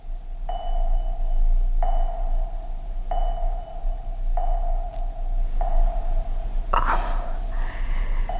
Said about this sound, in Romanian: Doctorul spune că se aud bine bătăile inimii copilului. Înseamnă că e sănătos. Bătăile inimii copilului? Da, sunt bătăile inimii copilului. Poți să-i auzi inima cum bate separat de adumitare.